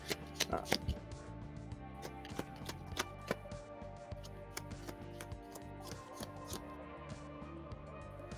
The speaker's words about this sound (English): So we are shuffling the villain deck again.